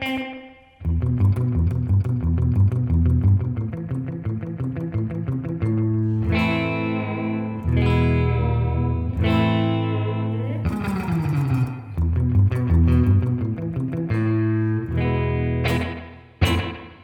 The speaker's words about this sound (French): Je mets le depth au minimum pour essayer de minimiser l'effet de dégradation et d'oscillation sur le mode tape et on écoute le plus droit possible. On va essayer de se faire un petit slap back. Encore un petit peu plus.